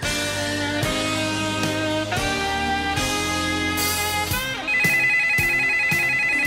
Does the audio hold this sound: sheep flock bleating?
no